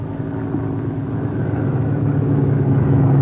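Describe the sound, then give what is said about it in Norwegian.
A steady, low engine drone of the first airplane taxiing slowly, a couple of hundred metres away, growing gradually louder as it approaches, with a dense rumbling hum and no voices. “De er ikke langt unna nå, de er bare det første fly. Jeg ruller nå langsomt frem mot meg, bare et par hundre meter bort.”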